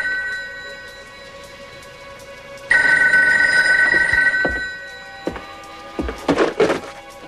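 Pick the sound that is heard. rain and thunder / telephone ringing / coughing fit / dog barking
telephone ringing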